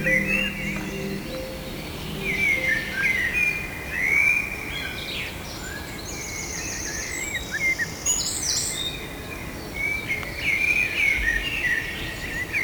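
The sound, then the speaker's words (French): Birds chirp and twitter repeatedly in short bright bursts, several calls overlapping as the birds circle beside a trail near a large rock, over a steady outdoor hum with faint insect buzzing. No one speaks. “Et tous les oiseaux qui tournoient.”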